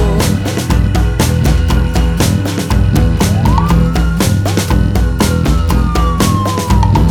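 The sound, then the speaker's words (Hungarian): An emergency vehicle siren wails in a long, gliding tone partway through, layered over loud, upbeat music with a steady pounding drum beat. “Nino, Nino, Nino, Nino, mindenhol szágúzódó. A bajban vagy nem vagy jó, mentő, rendőr vagy tűzoltó.”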